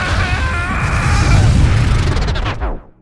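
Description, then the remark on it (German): A loud, rumbling explosion sound effect roars for about three seconds with crackling debris and a deep boom, then quickly fades out. No voices accompany it. “Wenn Lego jetzt Minecraft imitiert, dann ist das der Spiegel im Spiegel und das Zeitraumkontinuum explodiert.”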